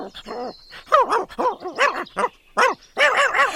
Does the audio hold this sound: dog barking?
yes